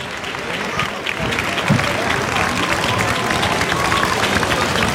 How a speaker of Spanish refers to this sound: pero mira, noticia, se abren las puertas, ahora mismo, el aplauso.